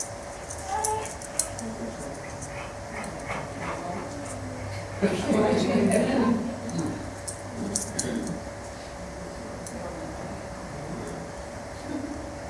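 Small dogs in a video, being introduced to each other, whimper and yip over a steady background hum, with a louder cluster of yelps and whines in the middle before it settles back to scattered faint whimpers.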